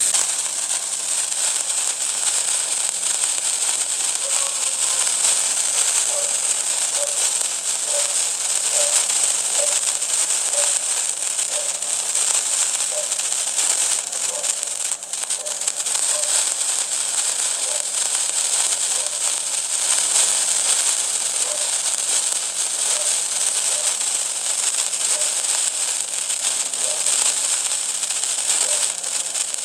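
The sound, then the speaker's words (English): A sparkler sound effect from a fireworks app: steady, dense hissing and fizzing crackle that runs without pause for about half a minute, bright and even in loudness, with no voices. “Okay, so that's a sparkler.”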